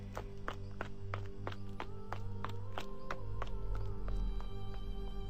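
Quick, evenly spaced footfalls of a young woman running home, about a dozen sharp steps over a steady low background hum, moderately loud.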